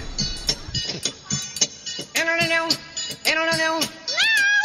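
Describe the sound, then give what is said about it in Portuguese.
Three drawn-out, loud cat meows, each rising then falling in pitch, preceded by a second of muffled shuffling and clicks. “O gatinho nasceu!”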